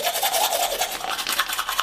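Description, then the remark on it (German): Scrubbing of a manual toothbrush on teeth, a steady wet, bristly rasp with quick back-and-forth strokes, fairly loud and with no voices. “Manuell mit der normalen Zahnbürste?”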